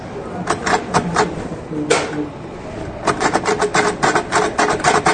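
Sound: typing on a typewriter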